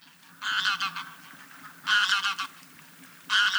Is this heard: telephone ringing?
no